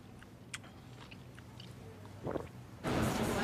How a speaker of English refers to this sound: Jin munches on his orange and regards bespectacled Bob, who looks away thoughtfully.